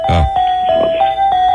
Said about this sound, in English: Weird version of the Carol of the Bells, but it's the Carol of the Bells.